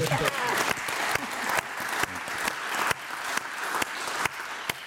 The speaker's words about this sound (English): So I would encourage everyone in here today to remind yourself how much fun it is to be curious. Mm-hmm. I saw some clapping, and I agree.